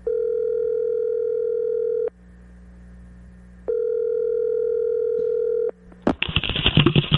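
A telephone dial tone, as a phone call is placed to Tiger Woods, hums steadily in two long stretches separated by a short pause, then a sudden burst of harsh, crackly line noise cuts in at the end. No one speaks.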